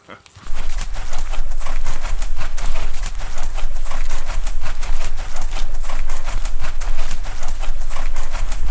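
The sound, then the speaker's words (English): Horses' hooves clip-clop steadily, a dense, continuous run of beats over a low rumble that starts abruptly and carries on throughout, with no voices. “Plenty of room for the horses as well.”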